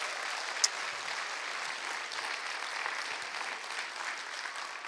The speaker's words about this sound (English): And then for all of those that have volunteered and practiced countless hours, can we give this wonderful production team a big round of applause for blessing us?